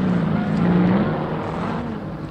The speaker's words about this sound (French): Oui, voici ma voiture. Elle n'est pas luxueuse, mais c'est tout ce que nous a offert l'armée anglaise.